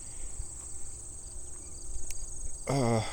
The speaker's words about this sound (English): Hey, Mr. Hopper Grasshopper.